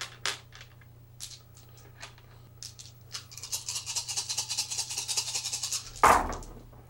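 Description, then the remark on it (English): A handful of 21 dice are rolled, clattering in scattered clicks, then building into a dense, rapid rattle before one loud final clack as they land. No one speaks over the sound. “Yeah, pull the hits off and then reroll them.”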